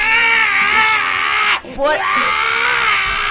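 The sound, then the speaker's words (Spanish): A man loudly imitates wailing, sobbing cries in a sustained, strained voice, with one brief catch of breath midway before the exaggerated crying resumes. “Entonces yo me voy todo el avión llorando. ¿Problema tú? Nos vamos juntos y voy así.”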